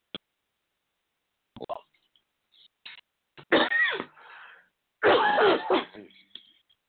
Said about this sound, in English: I apologize for coughing. I did try to cover it up, though.